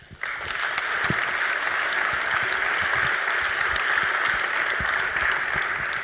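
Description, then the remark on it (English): An audience claps steadily, a dense, sustained wash of applause that starts abruptly and holds at an even, fairly loud level throughout, welcoming two speakers to a talk on the legal implications of a new German trade secret law. “So let's give a warm welcome and applause”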